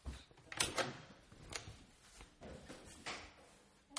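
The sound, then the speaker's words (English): A door is opened to a visitor, with scattered latch clicks, knocks and shuffling thuds over a few seconds, no voices, just quiet handling noises. “who's at my door? Hang on, I'll get this.”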